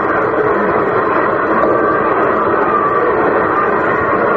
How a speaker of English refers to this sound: Crowd whooping it up for Yogis. A lot of Yankee fans here tonight.